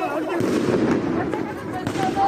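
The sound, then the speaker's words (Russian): Several sharp gunshots crack out at irregular intervals over a dense, noisy background of crowd commotion, the bangs loud, in online video footage of riots and clashes with police in Dijon, France. “На видео, которые тогда появились в сети, были видны люди в масках, горящие автомобили и слышны выстрелы.”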